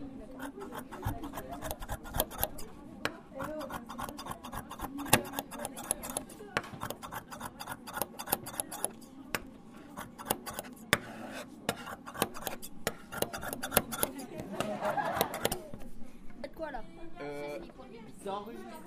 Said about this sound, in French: C'est quel bruit ça, madame? La coupe. La coupe avec les ciseaux.